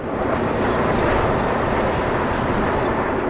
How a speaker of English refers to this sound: Airplanes seem to sound louder and fly lower when you're on the roof of a 5-story apartment building. This is the newly renovated Sage on Prospect complex, which has 96 solar panels providing electricity to about 30 tenants.